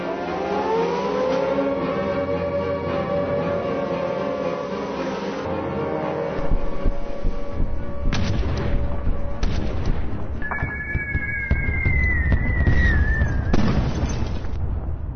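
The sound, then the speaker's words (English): An air raid siren wails steadily during a World War II bombing raid on London, then heavy bomb explosions boom and rumble loudly over it, with a second high siren tone rising briefly amid the blasts. No voices are heard. “As our story begins, the children are at the train station in London after a bombing raid.”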